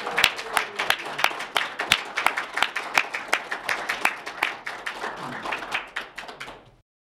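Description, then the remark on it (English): A group applauds for about seven seconds to congratulate newly invested third-degree Knights of Columbus at St. Elizabeth Seton in Carmel, a dense patter of claps with sharper individual claps standing out, steady in loudness before quickly fading out at the end. “Please join me in congratulating our newly invested third-degree Knights of Columbus with a round of applause.”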